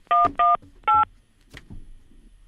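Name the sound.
telephone keypad dialing tones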